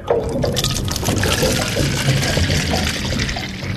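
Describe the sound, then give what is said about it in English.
Water from a Van Doren water sampler, hoisted back on board, pours steadily into holding jars: a loud, continuous gush and splash lasting a few seconds with no voices. “It's lowered into the water, then hoisted back on board, where its contents are poured into holding jars.”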